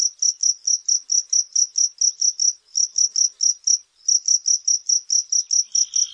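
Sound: cricket chirping at night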